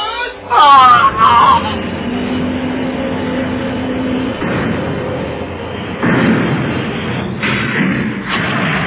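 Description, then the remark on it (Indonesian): A loud explosive blast bursts out near the start, blowing a body to pieces in the air, followed by a long, low rumbling roar that keeps going with a few more dull thuds and swells toward the end. “Tubuh itu hancur berkeping-keping di udara.”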